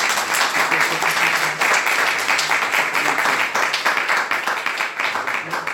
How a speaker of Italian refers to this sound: Bene, intanto un applauso.